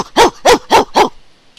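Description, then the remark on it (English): Four short, bright pre-recorded puppy yips play from the 20-watt chest speaker of a robotic dog, in a quick, even rhythm, fairly loud, with nothing else around them and a brief quiet tail at the end. “It's a robotic it crushes dog you in its embrace while you hear cute puppy noises coming from it.”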